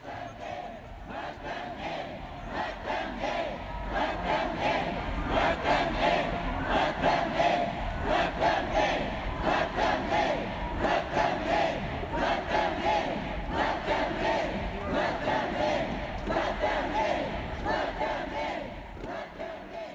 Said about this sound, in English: like a movie emerging from the front door as the thousands stood chanting outside of the courthouse.